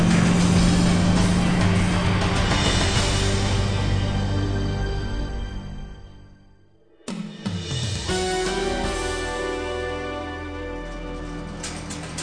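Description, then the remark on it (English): A loud, dense car engine roars with screeching during a car chase, fades to near silence around the midpoint, then bursts back abruptly at full intensity, as another vehicle pulls in front and slams on the brakes. “He got in front of me and slammed on the brakes.”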